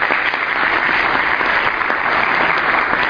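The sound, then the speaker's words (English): Steady, dense applause from a large audience at an evening event for a speaker, an associate professor at UCLA School of Medicine, many hands clapping at once in a continuous loud wash of sound with no talking over it. “Let's give him a rousing round of applause.”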